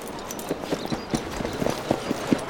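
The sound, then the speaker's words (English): Three big Western horses carrying riders canter across a wooden bridge, hooves clattering over hollow planks in quick, uneven, overlapping clip-clops with a steady rhythm, moderately loud with no voices. “They cantered across the wooden bridge, 3 big men riding big Western horses.”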